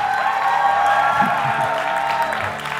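A crowd applauds and cheers for God after a prayer, a dense, steady wash of clapping that stays loud for the full three seconds, with sustained musical tones ringing underneath.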